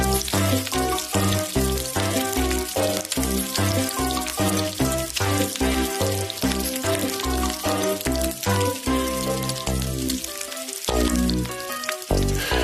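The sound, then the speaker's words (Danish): Real, very fatty bacon (not back bacon) sizzles loudly in a frying pan, a steady crackle and hiss that runs for the whole stretch, mixed with some tonal, ringing sound layered underneath. “Det er ikke back bacon, det er det her rigtig, rigtig fede, gode, altså det er rigtig bacon, kan man sige.”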